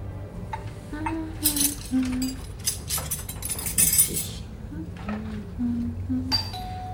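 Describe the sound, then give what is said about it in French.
Cutlery clinks and rattles as it is handled and passed, in a few scattered bursts of bright metallic knocks, while people speak quietly. “Tu me passes les couverts, s'il te plaît.”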